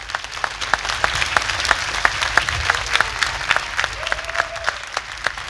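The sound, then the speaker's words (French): A crowd at a Vendée Globe gathering applauds steadily, many hands clapping in a dense, continuous patter that holds at an even level throughout, with no voices standing out. “Allez-y, vous pouvez applaudir.”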